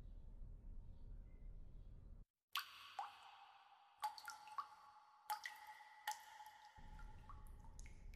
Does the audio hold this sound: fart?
no